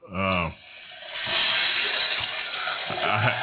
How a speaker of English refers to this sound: I had to do that one. That's toilet flushing.